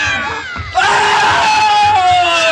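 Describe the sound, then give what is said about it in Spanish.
A loud, sustained shriek like a yowling cat suddenly swells into the wild, anguished screaming of a Mongol warrior, with harsh tones that waver and slide downward, intense for a couple of seconds. “y solo escucha los extraños gritos salvajes y los gritos angustiados del guerrero mongol.”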